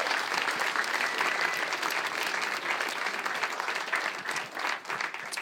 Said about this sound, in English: Yeah, give him a big round of applause for that.